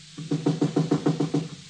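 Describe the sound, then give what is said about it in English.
A quick, steady run of about eight knocks on a back door at 3:30 in the morning, evenly spaced and fairly loud, with no voices. “Someone knocking at the back door.”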